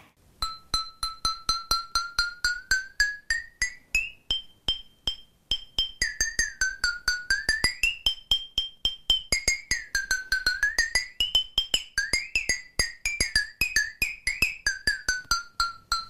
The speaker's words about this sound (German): Wasser, eindeutig Wasser. Wenn man so eine Wasserflasche aufmacht und dann... wenn es so rausgluckert. Ja. Es ist tatsächlich auch Wasser. Es ist eine mit Wasser gefüllte Glasflasche. Die wird wie ein Schlagzeug benutzt.